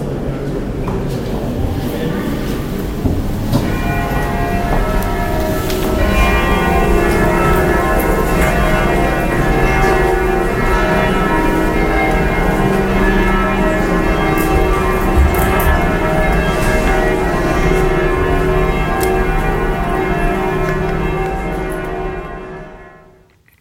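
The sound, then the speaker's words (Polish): Church bells peal continuously in a dense, overlapping wash of ringing tones, loud and sustained for about twenty seconds before fading out at the end, with faint background activity underneath. “Dzięki dzwonów i z Jerozolimy przenosimy się do Medjugorje”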